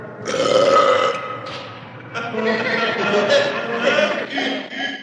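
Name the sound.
loud belch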